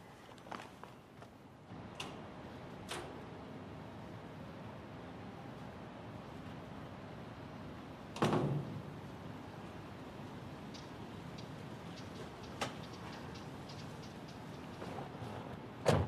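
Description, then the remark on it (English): Sparse footsteps walk to a door to answer it, a few steps seconds apart, then a louder clunk and rattle midway as the door is opened, with more light steps after over a low steady hum. “You're at the door. I'm coming.”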